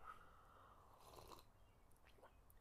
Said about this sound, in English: Just taking a little sip of coffee there.